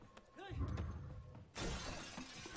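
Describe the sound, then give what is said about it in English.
Low rumbling with a muffled voice gives way to a sudden, loud burst of shattering fake glass in a film fight scene, a bright crash that keeps spraying and ringing through to the end. “And the glass is not real, right?”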